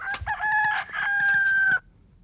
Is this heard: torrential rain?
no